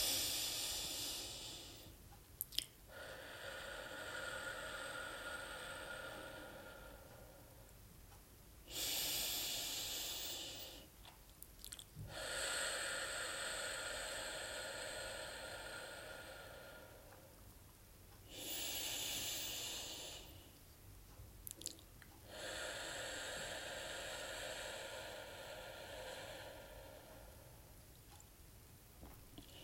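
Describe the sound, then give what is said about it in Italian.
Three slow, deep breaths, each drawn in through the nose with a soft airy rush and released in a long, gentle exhale through the mouth, quiet with brief pauses between. “Appena senti il bisogno di mangiare senza una fame reale, fermati un attimo, fai 3 respiri profondi. Inspira dal naso ed espira lentamente dalla bocca.”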